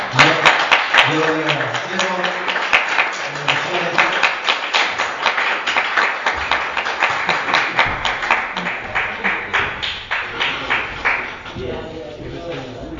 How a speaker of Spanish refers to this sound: Le vamos a dar un fuerte aplauso al Señor.